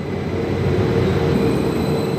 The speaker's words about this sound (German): Am Hauptbahnhof Bingen schaut der gescheiterte Radler dem abfahrenden Zug nach. Er ist sauer, denn er weiß, der nächste Richtung Frankfurt wird nicht weniger voll sein.